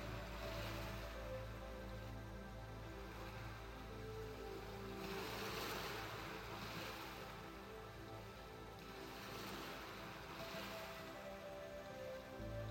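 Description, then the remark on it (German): Gentle ocean waves wash onto a sandy beach, each hissing swell rising and fading every few seconds over a steady low rumble, with no voices. “Du kannst das gleichmäßige Auf und Ab der Wellen betrachten und der Rhythmus des Meeres bringt dich zur Ruhe.”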